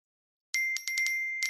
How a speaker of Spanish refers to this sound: ¿Oyes eso? Son nuestros 21.000 propietarios recibiendo el aviso de que hoy ya han cobrado sus rentas.